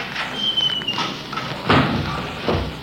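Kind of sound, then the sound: household object, door thudding shut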